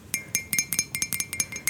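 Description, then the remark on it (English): A rapid series of bright clinks from a ceramic mug holding wine, about ten sharp ringing knocks in quick, fairly even succession, with no one speaking. “It's actually a mug. Don't judge me.”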